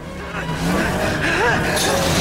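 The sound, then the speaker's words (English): A car engine roars as the car, headlights on, speeds at a gateway and crashes through a metal gate with a loud clattering bang and rattle, throwing a man over the top of it. Voices can be heard under the noise. “The car hammers through the gate, sending Jake somersaulting over the top of it.”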